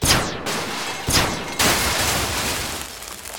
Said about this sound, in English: Simple blaster rig for when the door opened.